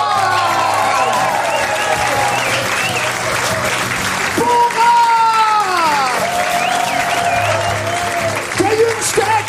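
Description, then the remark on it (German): A crowd at the Nightwash show, its last edition before the summer break, applauds the performers loudly and steadily, a dense wash of clapping with whoops and shouted cheers rising above it throughout. “Folgende Künstler sind dabei und ihr kriegt einen fetten Applaus bekommen alle von euch.”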